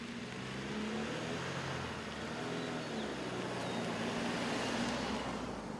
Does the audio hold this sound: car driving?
yes